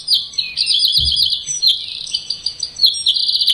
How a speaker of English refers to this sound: This is a wren. I can easily tell if it's a wren from the volume. It's super loud, it's a wren.